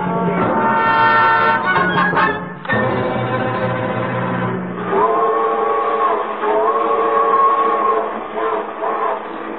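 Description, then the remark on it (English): A loud train with a horn-like whistle sounding sustained, chord-like blasts over a steady rumble, swelling and fading several times, with no voices. “You know, this is the first time we've been on a train together where we actually paid our fare.”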